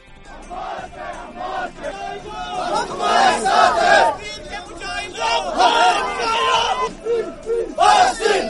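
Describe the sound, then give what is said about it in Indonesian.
Thousands of people in a religious procession marking Muharram in Srinagar, in Indian-administered Kashmir, shout chants condemning Israel and America in the streets, loud rhythmic bursts of many voices rising and falling in waves over a steady background roar. “Teriakan kecaman terhadap Israel dan Amerika berkumandang di sepanjang jalan-jalan yang dilalui warga.”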